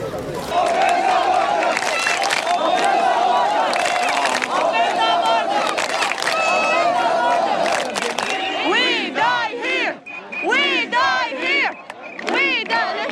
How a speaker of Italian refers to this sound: La folla, sempre più stremata, si accalca ai confini con la Macedonia urlando «Open the border! Aprite la frontiera! Stiamo morendo!».